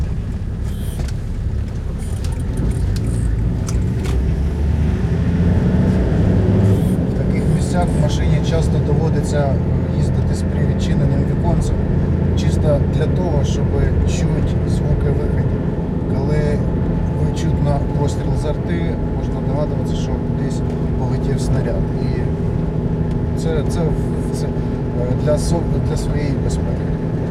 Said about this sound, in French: Dans de tels endroits, il faut souvent conduire la voiture avec la fenêtre ouverte, juste pour que lorsque vous entendez un coup de feu de l'artillerie, vous puissiez deviner qu'un projectile a volé quelque part.